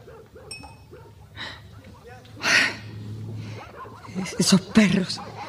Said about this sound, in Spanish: Esos perros no los aguanto. Pero lo van a encontrar, no te quepa duda. Están entrenados para eso.